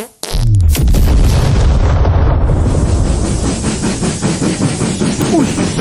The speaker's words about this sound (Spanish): Y de pronto, ¡pum! Una máquina metálica se tira un peo.